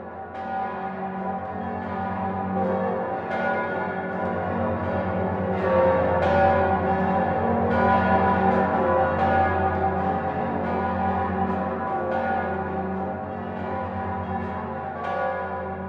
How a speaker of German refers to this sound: Unbestreitbar und vor allem unüberhörbar zählen die Passauer Domglocken zu den gewaltigsten Stimmen im bayerischen Glockenhimmel.